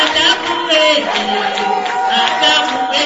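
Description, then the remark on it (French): A crowd sings together at a steady, lively level at a Friday ceremony in Bunia installing four networks of Congolese women leaders, voices blending into a dense chorus with sustained high notes and occasional joyful cries rising above the singing. “C'est dans cette ambiance des chants accompagnés des cris de joie que la cérémonie d'installation des quatre réseaux des femmes leaders congolaises s'est déroulée à Bunia ce vendredi.”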